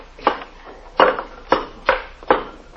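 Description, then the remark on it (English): A crowbar knocks at a brick wall in five sharp, heavy blows at an uneven pace, each a loud crunching thud that fades quickly, with brief quiet gaps in between and no talking. “Here, take this crowbar and knock that wall down.”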